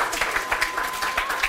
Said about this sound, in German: Bravo, Applaus für